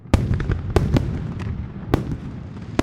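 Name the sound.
fireworks exploding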